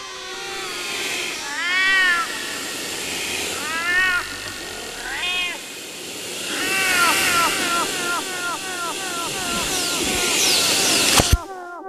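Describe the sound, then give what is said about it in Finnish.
A drawn-out creaking, like a door slowly swinging open, with several wavering squeaks rising and falling, then a busier run of creaks before a sharp click at the end. “Hiljaa avautuva ovi, jonka takana vielä joskus oli kissa.”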